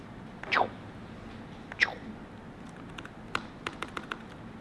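A few sparse, crisp taps on a computer keyboard, fairly quiet, irregularly spaced near the end, preceded by a couple of brief sliding squeaks, with no one talking.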